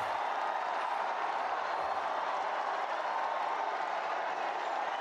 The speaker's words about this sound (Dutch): Jawel, witte rook uit de schouw van de Sixtijnse kapel. We zijn er helemaal live bij, hier in Radio Vaticaan. Heel het Sint-Pietersplein juicht.